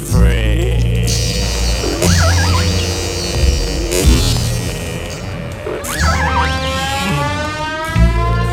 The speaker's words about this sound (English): It's a funny noise, but it's a whale, all right.